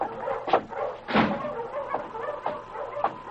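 Several sled dogs, a team of huskies, bark and whine in short, overlapping bursts, a restless chorus of yelps and whimpers, with no talking.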